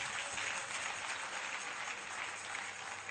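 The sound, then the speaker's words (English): A crowd claps steadily, a dense wash of many overlapping hands that holds at an even loudness for the whole stretch, with no one speaking over it. “Are you clapping for them?”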